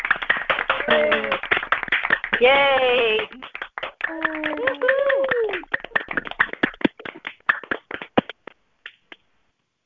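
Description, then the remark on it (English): Many people on a phone call unmute and clap together for newly ordained Pathways of Light ministerial counselors, heard through a narrow, phone-like line, the claps dense and uneven for several seconds and then thinning to scattered last claps, with cheering voices mixed in near the start. “So please take your phones off of mute, and let's all clap.”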